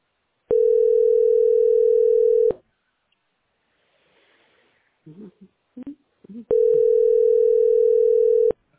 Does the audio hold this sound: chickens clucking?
no